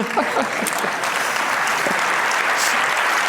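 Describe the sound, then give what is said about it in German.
Sustained applause from an audience at a stage event, a dense steady patter of many hands clapping, with a few faint voices briefly audible within it. “Dann einen großen Applaus für alles, was in den letzten 4 Jahren passiert ist.”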